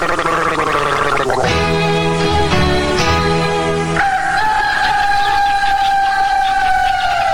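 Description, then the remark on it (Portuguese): In a Brazilian Anapion throat-remedy commercial, a rooster tries to crow but sputters and chokes, its loud strained call breaking into gargling rattles before stretching into a long, wavering, descending note. No one speaks. “Ó o galo. Olha o galo engasgou.”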